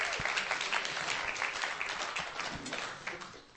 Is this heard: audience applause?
yes